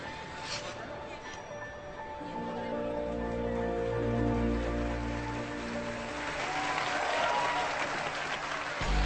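An arena crowd at a figure skating competition applauds steadily during the ladies' short program as skater Zoe Blanc performs, about nine seconds of dense clapping and cheering that swells louder midway, with a low droning tone running underneath.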